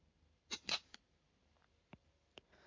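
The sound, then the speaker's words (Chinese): A small metal chastity lock snaps shut with a quick cluster of sharp clicks, followed by a few lighter, scattered ticks and rattles. No one speaks. “这个叫贞操锁，只有姐姐有打开的钥匙。”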